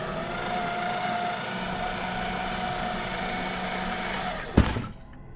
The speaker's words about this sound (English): Then, the paper shredder by the door suddenly started.